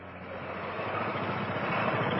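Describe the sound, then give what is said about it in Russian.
A car engine rumbles steadily as the cardinal's car rolls along the main avenue toward the entrance, a broad continuous drone with a faint rise in loudness over a couple of seconds, no voices present. “Машина его преосвященства въезжает на главную аллею.”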